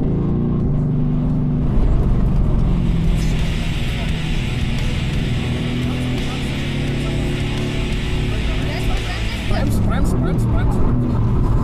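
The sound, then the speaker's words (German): A car brakes hard into ABS as the driver brakes firmly enough to reach the ABS range: a steady, loud engine and road rumble joined by a harsh hissing, grinding roar that lasts several seconds before easing off. “Feste Bremsen. Ja, du musst in den ABS-Bereich kommen.”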